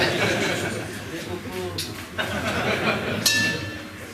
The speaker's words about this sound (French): Alors nous avons entendu une cloche, alors c'est juste un petit avertissement, parce que toutes les familles, pendant les DP3, vont sonner, d'accord, je vous préviens, dès à présent.